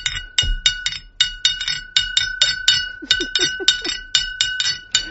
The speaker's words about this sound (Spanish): la de Anís del Mono con la cuchara para acompañar los villancicos. Cuando vas a pedir, pues es la clave, que tú me contabas, que el otro día le compraste una a tu hija. Sí, pues no entendía lo que es tocar la botella de anís.